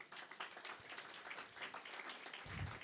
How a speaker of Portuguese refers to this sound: Dê um aplauso a Ele, amém?